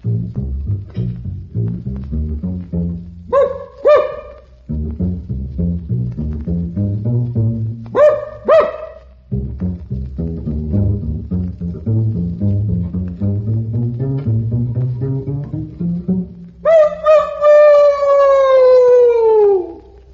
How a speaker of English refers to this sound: So we again borrowed Gertrude and have placed her inside a string bass. Gertrude seems quite happy, so Mr. Pete Rogers will now play Pizzicato Polka to determine if the basset hound in any way affects the tone of the instrument.